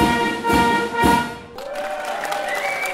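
Applause at the close of a Eucharistic procession for the Fête-Dieu (Corpus Christi) pilgrimage of 2024, with a couple of louder swells of clapping early on over sustained musical tones, then thinning out as a steady tone carries on.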